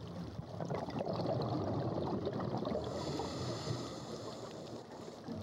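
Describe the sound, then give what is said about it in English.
A dense, churning rush of water and bubbles, loud and steady for several seconds before easing slightly, as a scuba diver with a regulator in the mouth leaps off a boat into the sea and sinks beneath the surface. No voices. “I put my regulator in my mouth so I can breathe and leap off the boat.”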